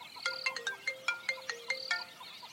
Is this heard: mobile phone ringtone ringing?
yes